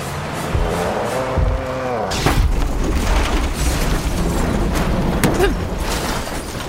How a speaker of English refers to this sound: The impact came towards the rear and knocked the truck completely off the ground and onto its side.